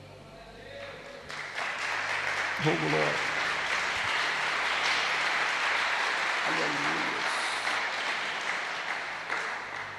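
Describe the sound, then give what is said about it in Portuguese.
A church audience claps hands energetically for Jesus in a sustained, dense burst of applause lasting several seconds, with a voice briefly speaking over the clapping. “Podem se assentar e as palmas bem alegres para Jesus.”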